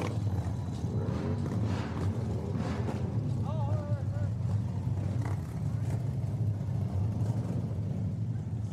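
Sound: motorcycle engines roaring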